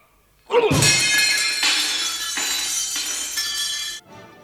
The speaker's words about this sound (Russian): Зеркальце разбили.